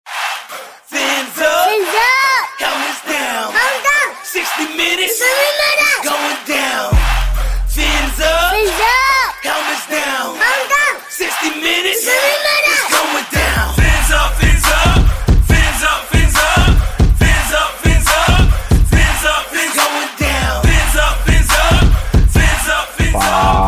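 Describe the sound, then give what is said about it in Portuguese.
A loud, continuous roar of Miami Dolphins fans in the stadium at an American football game, with overlapping shouts, yells and chanting voices that swell heavier and more rhythmic in the second half. “Torcida do Miami Dolphins.”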